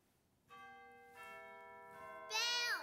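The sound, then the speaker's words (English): An organ plays a bell-like voice: three rich, ringing tones enter one after another, each holding and overlapping, then a brighter, louder chime-like burst closes the phrase. “It can sound like bells.”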